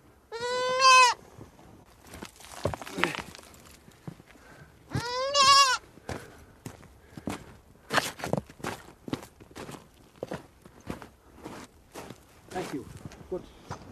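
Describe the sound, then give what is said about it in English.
Goats bleat twice, loud, with wavering nasal cries near the start and again a few seconds later, amid scuffling footsteps and rustling movement that continue throughout, as a goat is taken out during filming. “Do you want to go and take care of Sonam's goats?”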